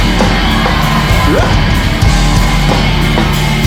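A dense wall of loud, sustained yelling from many audience members at a live event screaming as loud as they can at once, continuous for several seconds with no pauses.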